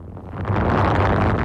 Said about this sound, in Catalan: així és com bufa el vent, aquesta hora a Ilulissat. És el poble de Groenlàndia on s'ha quedat encallada l'expedició del Sassic,